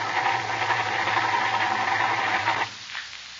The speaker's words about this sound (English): She won't start, Jack. The battery's running down. We'd better not use the self-starter until we dry the engine.